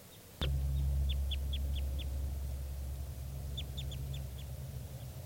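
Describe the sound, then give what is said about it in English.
Two bursts of sharp, high chip calls from a wild Type 2 red crossbill, about five quick notes each, over a steady low hum that begins with a soft thump. “I'm not sure, but I hear type 2 calling, and I'm not sure if it's 387 or one of the wild birds.”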